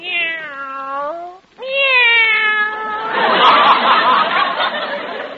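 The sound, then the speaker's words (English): Upset cats in a cage meow loudly: two long, drawn-out wailing meows, followed by a harsh, raspy, noisy yowl that carries on to the end. “Cats do that to mice as a rule.”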